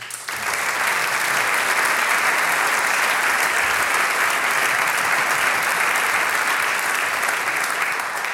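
A large audience applauds a band on stage, a dense wash of clapping that starts abruptly and holds at full strength for several seconds without any talking.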